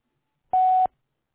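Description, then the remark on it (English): A single short answering machine beep, a steady mid-pitched electronic tone lasting about a third of a second, loud and clean with silence on either side. “Sorry I can't get to your call right now, but if you leave your name and number after the beep, I'll get back to you as soon as possible.”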